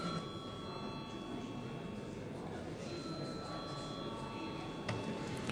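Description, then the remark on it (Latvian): A parliament voting bell rings steadily without a break, a sustained bright metallic tone lasting the whole stretch, over a low murmur of background voices. “Lūdzu zvanu.”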